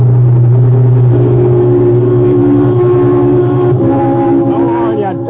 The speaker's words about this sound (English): Tourists. Always in a hurry to get no place. Must have been doing 70 at least. Who's that? Oh, that car that just passed us. Going like the devil.